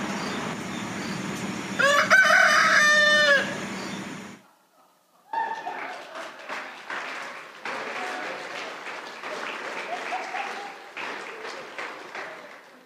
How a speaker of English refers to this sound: We got to hear those roosters every morning, and they woke us up bright and early at 4 o'clock